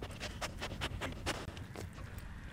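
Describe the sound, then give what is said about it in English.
Tilia, the conservation dog at Mequon Nature Preserve north of Milwaukee, Wisconsin, sniffs rapidly and eagerly while looking for a treat, short breathy snuffles repeating in quick bursts with a few brief pauses, no voices present. “That sniffing you hear is Tilia, the conservation dog at Mequon Nature Preserve.”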